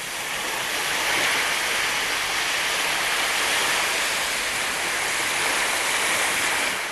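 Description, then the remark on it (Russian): The churning, foaming water of the Yamuna River in a pouring rainstorm roars in a dense, steady rush with heavy surging waves, loud, holding an even level throughout with no voices. “Вода бурлила и пенилась, вздымались огромные волны.”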